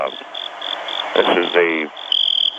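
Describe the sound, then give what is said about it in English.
Crickets chirp on a television set, tested for a TV program on the Jack Odd Hockman story, in a steady, pulsing rhythm of short bright bursts, clear, with a brief rustling, trilling burst of other noise midway through. “I'm on set right now, and we're just testing out the crickets that we've got here.”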